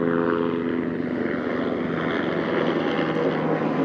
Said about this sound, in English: And then, there's a helicopter passing. Let's see, is it news? Military?